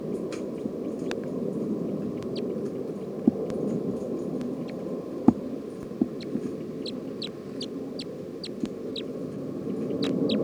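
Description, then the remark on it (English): A bird's chitter call: a quick, irregular series of short, high, thin chirps repeated throughout, fairly soft over a steady low background hum, with a few sharp clicks. “recording Chitter.”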